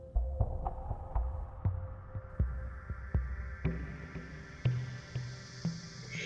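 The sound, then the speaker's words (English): A steady heartbeat thumps in low, muffled pulses at a slow, regular pace, layered over a soft continuous hum with faint clicks. No one speaks. “Hear your heart beating in your body, in your life today, and breathe into this moment.”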